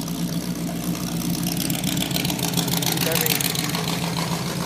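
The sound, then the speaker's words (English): A Chevrolet car engine idles close by with a steady, loud low rumble that holds unchanged for several seconds, while muffled voices murmur in the background. “Well, once he pulls in, he'll cut the engine.”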